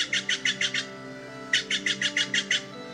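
steller's jays calling

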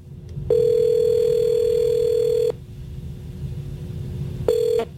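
outgoing phone call ringing

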